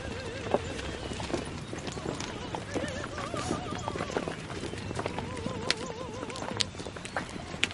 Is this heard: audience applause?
no